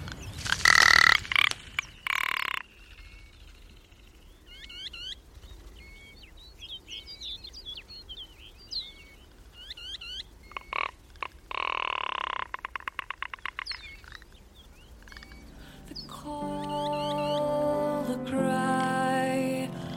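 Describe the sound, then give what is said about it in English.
Field recording of ptarmigan on a mountain plateau: low, belching croaks and dry rattling bursts repeat over a steady hiss, with thin chirping notes scattered between. Near the end a sustained, tonal layer rises under the calls. “And first up is a bird you'll recognise from the plateau, the ptarmigan.”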